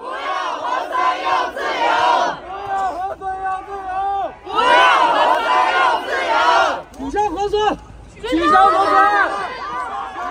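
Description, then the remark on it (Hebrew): A large crowd of protesters in China, part of a protest wave against COVID restrictions, chants loudly in unison, shouting slogans in repeated rhythmic bursts separated by short pauses, with many voices rising and falling together. “וזה כאמור מוביל לגל מחאה, חסר תקדים במונחים של סין, וזה משהו שגורם לממשל רגע לעצור ולחשב מסלול מחדש?”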